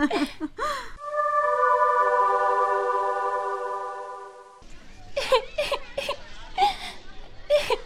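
A young girl cries, starting with a long, drawn-out wail that slowly fades, then breaking into choppy sobbing bursts. The crying is close and fairly loud.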